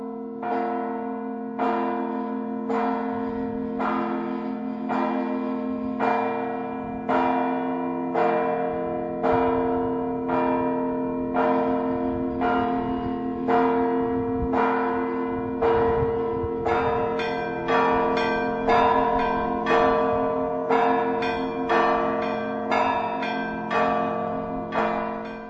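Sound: cathedral church bells ringing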